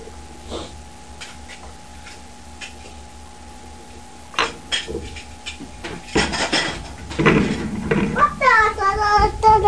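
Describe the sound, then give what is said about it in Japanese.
Light plastic toy plates and dishes clatter and clink during pretend play, sparse at first and then busier and louder in the second half, with a child's voice joining near the end. “もうお皿いいわ。ハンバーグください、ハンバーグ。”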